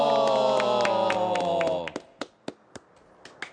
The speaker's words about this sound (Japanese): 拍手が一人遅いです。